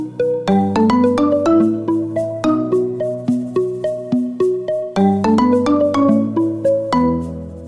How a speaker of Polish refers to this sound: Natomiast w paczce dźwięków, którą mamy już gotową, znalazł się także dzwonek połączenia przychodzącego.